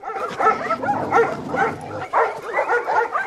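A man's pack of dogs barks continuously and overlapping, with yips and whimpers mixed in, loud throughout.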